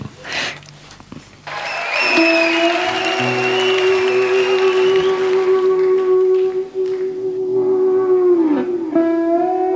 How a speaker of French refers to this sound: Et on l'entend sur cet album. Bah, j'espère, en tout cas, oui, j'espère. Oui, on entend ces applaudissements. Hein, il y a cette proximité.